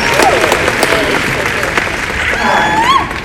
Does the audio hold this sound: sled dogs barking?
no